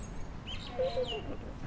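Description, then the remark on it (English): A bird gives a few short, clipped chuck calls in quick succession, fairly quiet against a soft outdoor background hiss. “Another bird going chuck, chuck, chuck, chuck. That might be a magpie.”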